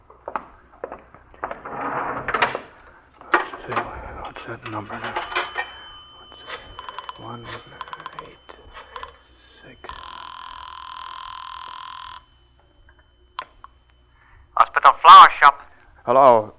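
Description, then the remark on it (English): A telephone is dialed, then a steady tone holds for a couple of seconds before short, loud bursts of ringing. Muffled voices talk quietly in the first half. “I'd have to make another phone call. There's a phone on this floor right in front of Murdoch's door.”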